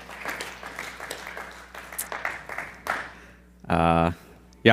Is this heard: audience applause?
yes